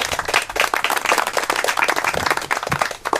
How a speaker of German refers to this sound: Applaus.